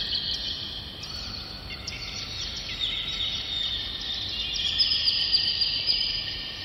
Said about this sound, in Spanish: Una especial técnica de grabación y una distribución no convencional de los sonidos a los diferentes parlantes son los medios por los cuales se logra el efecto de pájaros volando por la cúpula.